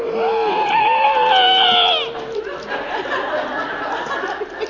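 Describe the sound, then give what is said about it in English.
On a count of three at the speaker's request, a crowd of voices imitates a lion's roar together in one loud, sustained, wavering howl lasting about two seconds, then breaks into scattered laughter and chatter. “You guys have it in you to give me the best lion's roar?”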